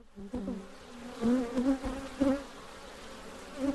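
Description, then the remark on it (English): A steady buzzing of honeybees, several wingbeat drones rising and falling in pitch as insects swirl past, swelling louder in brief bursts with no voices. “Will the bees be buzzing?”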